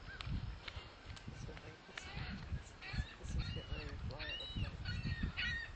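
bird, seagull calling

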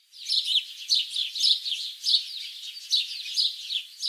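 bird, birds singing

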